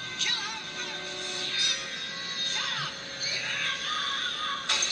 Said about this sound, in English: And he screams.